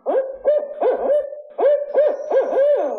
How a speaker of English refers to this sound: Any outdoors person in Minnesota, Wisconsin, or across the region can recognize the distinctive call of one of our native birds, the barred owl.